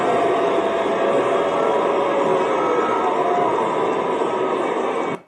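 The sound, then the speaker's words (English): A large crowd roars steadily, clapping and cheering for President Trump while booing a woman, the dense clapping, cheering and drawn-out booing blending into one loud, continuous wall of noise that stops abruptly at the end. “They're clapping and cheering for President Trump, but they're booing for her.”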